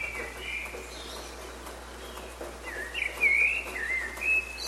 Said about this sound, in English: the sound of a bird's dawn chorus. Birds sing out like this in the early hours of the morning to let everyone know that they've made it through the night.